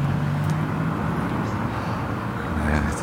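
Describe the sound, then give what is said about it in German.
A car engine idles, a steady low rumble with a faint droning hum that holds evenly throughout, with no clear rise or fade of a pass-by. “In diesem Moment diese Auto vorbeigefahren.”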